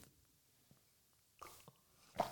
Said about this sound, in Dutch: even een slokje water. Ik ben benieuwd hoe hard dat nu hoorbaar is.